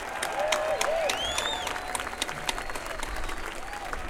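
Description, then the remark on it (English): Sustained applause from a sizable crowd for the volunteers who helped put the event together, dense clapping at a steady level throughout, with a few whistles and faint cheers rising above it. “How about a big round of applause for a lot of the folks that really helped to put this together?”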